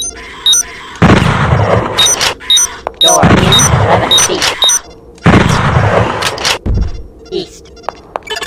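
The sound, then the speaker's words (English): Three heavy video game bolt gun shots, each a loud booming blast with a rumbling tail, spaced a couple of seconds apart, while a voice briefly speaks and short electronic tones chirp. “Manual bolt gun.”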